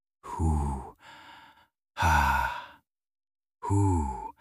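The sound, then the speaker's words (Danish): A voice imitates the slow, heavy breathing of an astronaut inside a space helmet: three loud, breathy exhalations, each starting with a voiced sigh-like tone, separated by short pauses of silence. “For inde i hjelmen kunne han høre sit eget åndedrag.”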